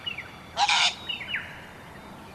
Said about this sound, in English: That sneezing sort of sound was a yellow wattle bird, one of the endemic birds that you'll only find in Tasmania, and you can see them here around the waterworks.